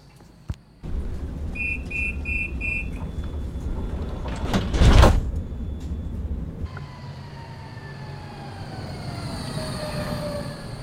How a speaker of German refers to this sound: Schau, Oma, die Straßenbahn ist schon da. Na, lass uns einsteigen.